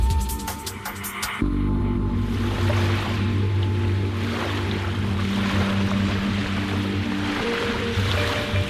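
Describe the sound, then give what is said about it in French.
Beach ambience with waves on a roadside beach about 30 minutes' drive from Banda Aceh, Indonesia: a steady, full wash of surf and wind with a low droning engine-like hum underneath, continuous and fairly loud after a brief clattery opening. No one speaks. “Sur une plage au bord de la route, à 30 minutes en voiture de Banda Aceh,”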